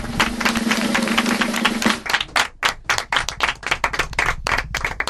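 Audience applause for two young girls about to perform a monologue on stage: dense, steady clapping from many hands for about two seconds, then thinning into scattered individual claps that continue unevenly to the end, with no talking.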